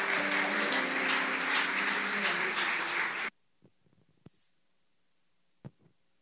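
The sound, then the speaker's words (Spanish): An audience applauds loudly in exaltation of the name of the Lord, a dense, steady roar of clapping for about three seconds, with some voices mixed in, then it cuts off abruptly into near silence broken by a few faint knocks. “¿Qué tal si damos otro aplauso de exaltación al nombre del Señor?”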